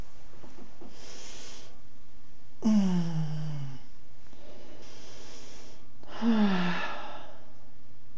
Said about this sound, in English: Have a nice stretch. Oh, big deep breath. Oh, and a yawn and a stretch.